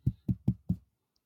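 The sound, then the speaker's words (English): Four firm knocks on a door in a quick, even rhythm, each a low, thudding rap with a short decay, followed by silence. “I'd probably just approach the door, just give a little.”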